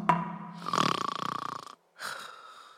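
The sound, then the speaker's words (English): Two loud snores from Rhino, an animal character in a story, asleep curled up on the ground after eating fruit: a long rattling, vibrating inhale that buzzes for about a second, a brief pause, then a shorter raspy snort, with no talking. “As Elephant, Gazelle, and Zebra watched Rhino snoring away, it suddenly dawned on them why he was so hale and hearty.”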